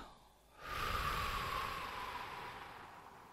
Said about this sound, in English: And when I breathe in, that fills up my lungs, okay, and expands my lungs. And then when I breathe out, it's going out of the same hole or the same flow. Breathe in.